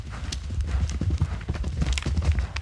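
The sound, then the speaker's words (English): Heavy hooves of a small bison herd galloping toward their ranger in a snow-covered 220-acre enclosure outside Bad Berleburg, a dense, overlapping drumming of low thuds that rolls on steadily without a break, loud and alone with no voices. “They gallop toward the 38-year-old bison ranger, then head for the oat mixture he pours into nearby troughs and eat with gusto.”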